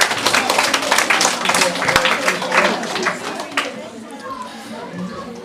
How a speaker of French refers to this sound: Vous avez tous les deux la bonne réponse. Bravo, on peut applaudir.